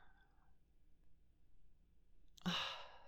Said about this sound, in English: That slight gasp. Are you perhaps excited by older women?